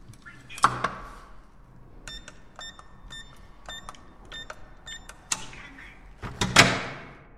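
door being opened

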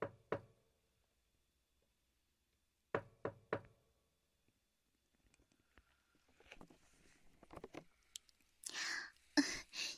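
knocking on a door

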